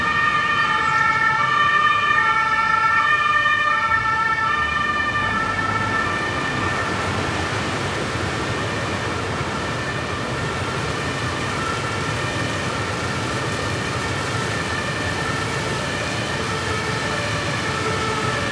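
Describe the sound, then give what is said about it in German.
The siren of the Stadloon fire brigade wails steadily with layered high tones over rumbling traffic noise, loud throughout and fading slightly after the first few seconds, with no talking. “Das sind die Geräusche von der alten Mühle und die Feuerwehr von Stadloon.”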